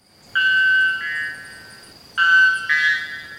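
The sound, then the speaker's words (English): A white bellbird gives two very loud calls, each a ringing, metallic, horn-like tone that steps to a second note partway through, with a short pause between them and no other sounds. “all white bellbirds can be found in northern Brazil and southern Venezuela in the Amazonian cloud forests”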